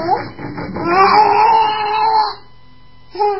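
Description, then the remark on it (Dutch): A hungry cat lets out a long, drawn-out, wavering meow lasting about two seconds, fairly loud, followed by a brief pause and the start of another short meow. “Zet de kat niet”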